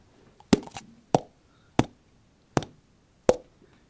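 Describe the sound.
A person imitates the booming call of a Eurasian bittern with five short, hollow, plopping pulses at a steady, unhurried rhythm, each sharp at the start and quickly fading, with quiet gaps between.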